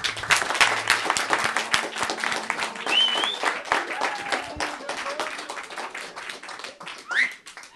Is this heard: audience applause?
yes